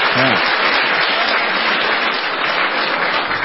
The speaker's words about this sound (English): They said, yeah, you know, the prospect of you running for 2016, the entire crowd there at Berkeley, what did they do in response to that? They cheered.